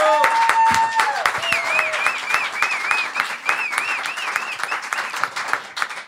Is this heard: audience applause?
yes